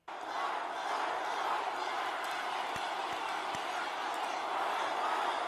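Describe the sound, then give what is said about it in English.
A large crowd chants "fight, fight, fight" after President Trump is announced, the many voices merging into a dense, loud, sustained roar that holds steady from start to finish. “But they're all shouting fight, fight, fight, and they're all shouting USA, USA.”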